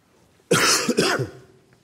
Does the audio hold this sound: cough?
yes